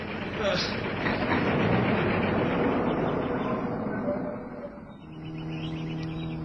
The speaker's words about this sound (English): We're being followed? No. We are. Car behind us, I can hear it.